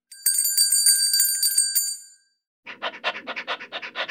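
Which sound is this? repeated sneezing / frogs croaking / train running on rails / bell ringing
bell ringing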